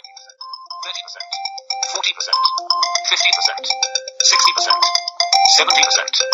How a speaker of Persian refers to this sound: خب این از صدای زنگ تلفن که اینجا میتونین صدای زنگ تلفن رو در این قسمت هم دستکاری بکنین و زیاد کمش کنین.